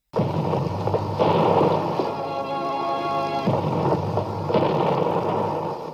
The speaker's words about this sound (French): Les trompettes sonnent. Bruit du canon au dehors.